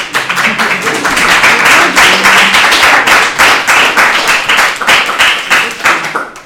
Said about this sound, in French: Des applaudissements spéciaux pour la personne qui a dessiné les margaritas, qui a créé le logo.